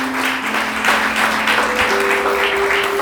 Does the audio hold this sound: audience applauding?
yes